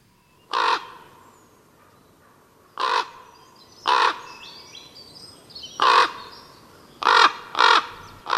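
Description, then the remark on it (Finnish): A common raven gives six loud, hoarse croaking calls, spaced irregularly with the last two close together, over a quiet outdoor background with faint birdsong. “Mustarastas, palokärki ja korppi ovat ulkonäöltään ja elintavoiltaan aivan erilaisia lintuja, mutta on niille yhteistäkin.”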